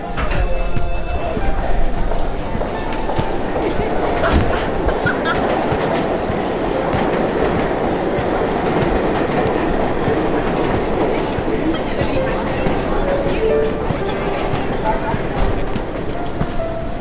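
A train rolls steadily along the rails, a loud continuous rumble with scattered clicks and clacks from the wheels and faint metallic squeals, heard from inside the car.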